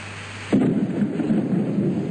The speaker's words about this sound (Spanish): ¿Cómo llueve?